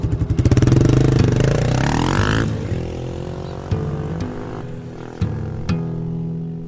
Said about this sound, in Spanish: El escape de la moto a toda marcha silenció las voces de las vecinas y sus criaturas, de Don Matías y de los amigos de Santiago.